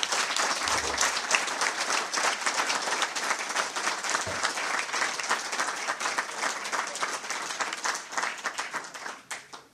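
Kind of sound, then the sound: crowd, warm applause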